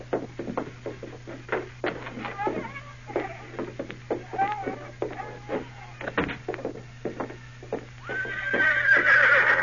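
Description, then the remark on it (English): A saddled horse, Victor, whinnies while its hooves clip-clop in a quick, steady rhythm, with a low constant hum underneath and a rising rush of noise near the end. “Go on, get out to your horse.”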